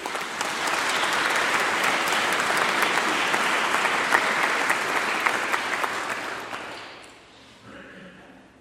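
An audience at a Mass applauds steadily with dense, crackling clapping for about seven seconds, then the applause thins out and fades away at the end.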